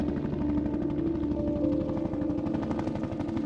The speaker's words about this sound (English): We hear it every night at 12:01. The sound of a helicopter is heard circling around every house on our street for 1 hour. This has been happening for 3 years straight.